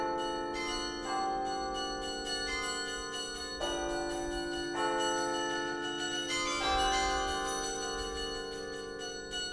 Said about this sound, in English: About 600 carillons in the world. They consist of at least two octaves, or about 23 bells minimum, of cast bronze bells that are all tuned in accord with one another. And the whole instrument is played from a keyboard and pedal board